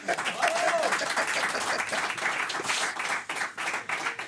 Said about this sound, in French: On l'applaudit.